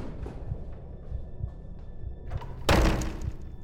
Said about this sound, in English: Bursting open the wooden door to this front attic room